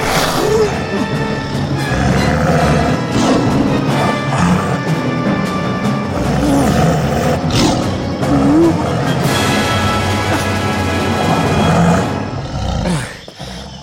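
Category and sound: animal, tiger roaring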